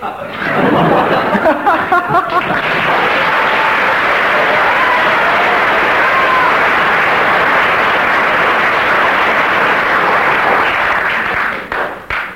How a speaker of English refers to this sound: That's one mark per second of applause.